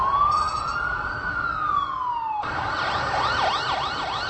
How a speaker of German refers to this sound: Neben den ständigen Auto-, Bus- und Straßenbahngeräuschen hört man in Prag, quasi im Minutentakt, auch dauernd die Sirenen von Polizei, Feuerwehr und Krankenwagen sowie des Unfalldienstes, wovon sie sich eben einen akustischen Eindruck machen konnten